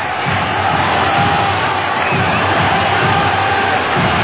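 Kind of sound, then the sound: crowd, crowd cheering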